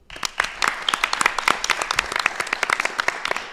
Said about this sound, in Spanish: Ya son estudiantes de sexto de primaria, pero también nos acompañan alumnos de cuarto y quinto del cole de Julio Rodríguez Villanueva de Villamayor. Así que vamos a cerrar esta entrevista con un fuerte aplauso, yo creo, ¿no?